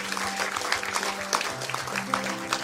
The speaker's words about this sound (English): Can we give those 8 guys a round of applause? God bless you.